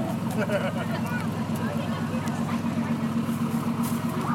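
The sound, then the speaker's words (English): Modern fire trucks, including fire rescue, search and rescue, and underwater search and recovery team vehicles, roll past in a parade, their deep engines giving a steady, droning rumble throughout, with indistinct voices murmuring over the top. “Because all the trucks are in show.”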